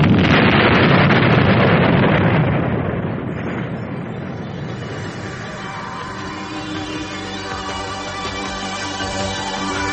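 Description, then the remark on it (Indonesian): The planet Krypton explodes in a big, roaring explosion that bursts out at once, a dense rush of noise that thins after about three seconds into a lingering rumble with steady, sustained tones beneath it. “Beberapa saat kemudian, setelah pesawat yang ditumpangi Kal-El, bocah berusia 2 tahun melayang jauh di angkasa, Krypton pun meledak hancur.”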